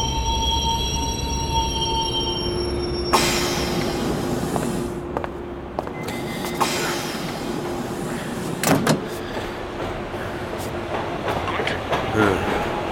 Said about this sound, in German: der U-Bahn-Station Colliers Wood, Northern Line, London, 1.03 Uhr.